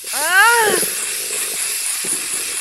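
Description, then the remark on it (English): A steady, continuous spray hiss runs for a few seconds without letting up, with a brief wavering voiced cry over it near the start. “Wait, please don't spray me.”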